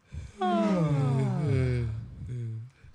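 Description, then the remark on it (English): A drawn-out human yawn, made on purpose for a science experiment segment, starting high and sliding down in pitch over about two seconds, followed by a shorter, lower exhaled tail. Loud and voiced, with no talking over it. “And we're all going to pretend to yawn, or actually yawn if you can.”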